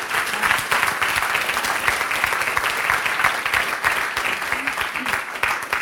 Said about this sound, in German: Und ja, lasst uns doch nochmal einen riesengroßen Applaus geben an unsere Leiter, oder?